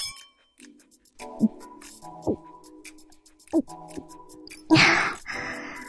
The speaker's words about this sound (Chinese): 哦对了，冰啤酒也没了。来来来，干杯干杯。